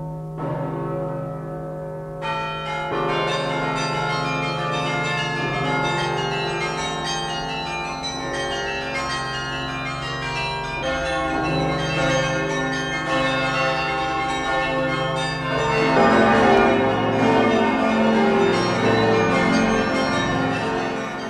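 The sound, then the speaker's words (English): Carillon church bells high in the bell tower of Riverside Church on Riverside Drive, New York, ring out in a full, continuous peal, their rich overlapping tones swelling and changing pitch every few seconds, loud and resonant with no voices present. “Well, we went to the Laura Spellman Rockefeller Carillon, which is in the Riverside Church on Riverside Drive here in New York.”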